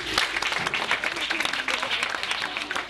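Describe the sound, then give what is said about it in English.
A group claps steadily for about three seconds, a dense, bright patter of many hands with no spoken words, holding at a fairly even loudness throughout. “Clap for him.”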